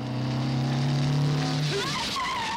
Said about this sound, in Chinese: 一辆三轮摩托车飞驰着超过了他，停在左侧楼前。那是上海警备司令部特务处的办公地。